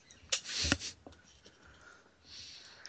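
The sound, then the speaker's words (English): Crunchy chewing of a graham cracker by a man, live on the Geek Brunch show: a burst of dry crackling bites, then a few sharp little crunches and a softer gritty rustle, with no talking. “Now you're going to hear him chewing live on Geek Brunch.”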